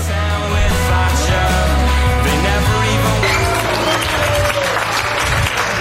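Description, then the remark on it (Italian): Sustained audience applause, dense and steady clapping, with some faint crowd murmur underneath but no clear speech. “Prego, che applaude, oh.”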